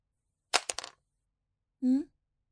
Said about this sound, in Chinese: 笔掉了。那你自己捡起来哦。难道还要老师帮你啊？